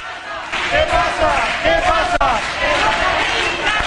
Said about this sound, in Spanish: Con ese grito de guerra, un centenar de jóvenes ocuparon IKEA. Mientras se ubicaban en los espacios de exhibición de dormitorios, salones y cocinas, los clientes y trabajadores no salían de su asombro.